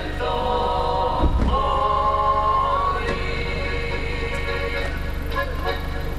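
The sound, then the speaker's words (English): A steady low rumble of idling car engines near the town square of Idrija, Slovenia, on a sunny day, outdoors, with loud tuneful Slovenian folk music blasting from a stereo over it and faint indistinct voices now and then. “It's a sunny day, and a few of his customers hang around as their cars idle.”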